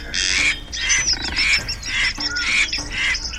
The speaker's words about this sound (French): Elle lève les yeux et elle voit un grand oiseau qui bat des ailes pour échapper à un poursuivant.